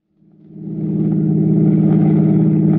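A car engine fades in over the first second and settles into a loud, steady drone as Siegel's car drives towards the George Washington toll bridge across the Hudson River, nearing the toll gate. No one speaks.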